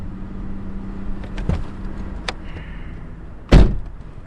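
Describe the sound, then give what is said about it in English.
The door of a new car is opened with a couple of soft latch clicks, then pulled shut a moment later with a loud, solid thud, with no one speaking. “Now, through the magic of radio, we're sitting together in my new car.”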